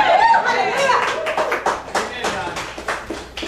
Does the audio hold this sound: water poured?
no